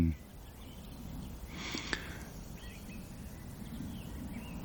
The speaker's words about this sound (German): Denn die Amseln belegen gerade die Landschaft und hinter mir schnickert noch das Rotkehlchen natürlich.